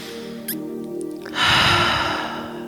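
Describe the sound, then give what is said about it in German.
A slow, deep breath during a guided meditation, a soft airy rush lasting over a second, with a faint steady tone humming underneath and a few tiny squeaks beforehand. “Atme nochmal mit mir zum Abschluss dreimal ein und aus.”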